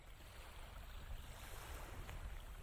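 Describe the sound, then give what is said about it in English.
A steady, low wash of water runs throughout, with a soft breezy hiss and no distinct splashes, calm water at a quiet level at the Shinnecock Canal in Southampton, a 40-foot gap of water connecting the Peconic Bay with the Atlantic Ocean, sheltered from the wind. “This 40-foot gap of water connects the Peconic Bay to the north with the Atlantic Ocean to the south.”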